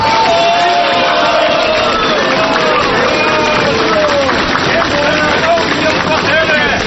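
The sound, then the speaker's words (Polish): A large crowd of Poznań residents cheers and shouts at the railway station in Poznań, Poland, welcoming the arrival of Ignacy Jan Paderewski at the start of the 91st anniversary commemorations of the Greater Poland Uprising, in a dense, continuous roar with overlapping voices and whoops at a steady, loud level. “Każdego roku Paderewskiego na dworcu witają tłumy poznaniaków.”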